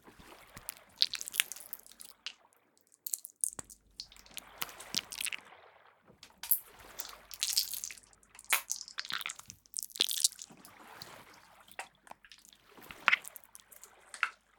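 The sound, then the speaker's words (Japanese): Small air bubbles pop inside squishy slime in quick, irregular bursts of soft crackles, moving from the right ear to the left ear. Quiet, with brief pauses between clusters and no voices. “スライムの中でプチプチって小さな気泡が弾ける音。”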